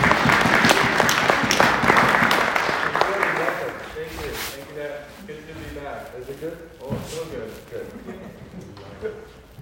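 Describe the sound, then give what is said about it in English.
A crowd claps together in a dense burst of applause lasting a few seconds, welcoming someone back, then it thins out and gives way to people talking. “Round of applause.”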